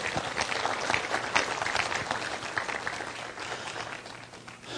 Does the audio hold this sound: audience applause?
yes